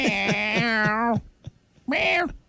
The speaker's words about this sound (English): God, cats are weird.